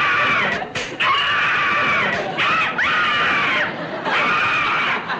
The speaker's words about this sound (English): Are you angry enough to scream? Yes. Yes? Would you like to scream and scream and scream? Oh, boy, would I. Okay. Go ahead.